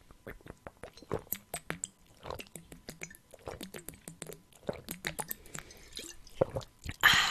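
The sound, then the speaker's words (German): Wet mouth and liquid sounds of someone sipping and swallowing water, a series of small drips, gulps and smacks at an uneven rhythm, with a brief breathy exhale at the end. “Ich habe noch immer keinen Schluck Wasser getrunken wegen der Nuss, aber naja, Prost.”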